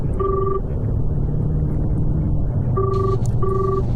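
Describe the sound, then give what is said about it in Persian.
A phone line rings out in short electronic tone bursts, one early and then two close together, steady and clear over a constant low engine-like rumble, with no one speaking. “کریستینا رو برام بگیر.”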